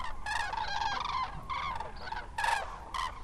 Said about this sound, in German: Zu zweit, zu dritt, zu viert erheben sie sich und fliegen majestätisch über uns hinweg. Erst ist es nur vereinzelt zu hören, das typische Kranichtrompeten, wie Experten es nennen.